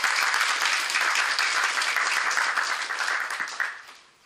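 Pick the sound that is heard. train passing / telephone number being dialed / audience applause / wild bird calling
audience applause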